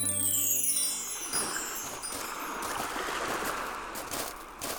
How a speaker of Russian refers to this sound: А вон море плещется, красивое такое, переливается на солнышке. Да, это мраморное море.